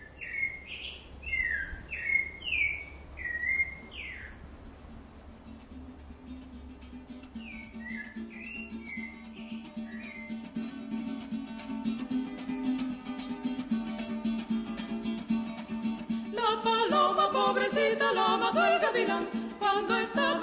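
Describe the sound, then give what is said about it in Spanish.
Bright birdsong chirps open a Venezuelan folk song, then a vocal quintet's sustained harmonies rise softly beneath more bird calls and swell into a fuller, louder chord near the end. “volviendo a la música venezolana, el legendario quinteto …, en Corrido de los Pájaros”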